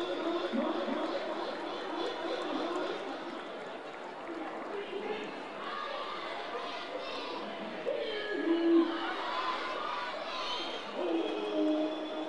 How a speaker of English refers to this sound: Lively crowd here on opening night. Beautiful night in the Central Valley.